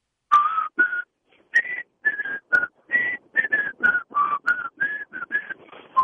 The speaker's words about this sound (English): If you're going to do the Andy of Mayberry, you have to really know how to whistle.